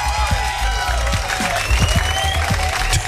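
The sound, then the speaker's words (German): A crowd at a gathering of a singer's doubles and fans on his 50th birthday applauds with steady, dense clapping for about three seconds, staying loud and even throughout, with faint whistling or cheering threaded through the noise. “Ich würde jetzt gern erstmal einen riesengroßen Applaus haben.”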